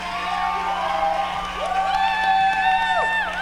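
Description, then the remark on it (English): A large audience applauds and cheers loudly for a performer after a song, a continuous wash of clapping with high whoops and shouts rising over it near the end. “Come on, give him another round of applause.”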